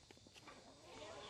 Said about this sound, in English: We're mobile. You can probably hear our footsteps, and we're going to go, and we're going to, like, see how the chickens react to that.